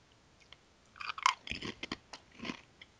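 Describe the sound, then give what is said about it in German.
Someone bites into crunchy Pringles potato crisps, a sharp crackling snap followed by several rough, irregular crunches of chewing, moderately loud with no talking. “Klingt knusprig.”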